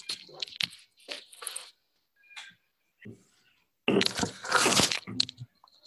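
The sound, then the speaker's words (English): A window is shut: a few short rattling, scraping bursts, a quiet pause with faint knocks, then a louder grinding slide lasting about a second before it stops. “One second, I have to shut my window.”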